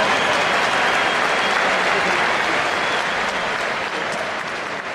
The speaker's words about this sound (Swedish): De senaste svenska mästarna inom AIK. Det är pojkar 14 som har vunnit dessa. Jag tycker att ni ger dem en varm applåd när vi är på väg in här på Råsundas matta.